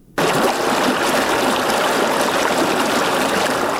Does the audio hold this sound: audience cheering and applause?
no